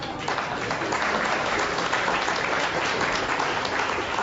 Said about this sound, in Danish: Jeg går ud fra, at du klappede for, at jeg skulle holde min kæft nu.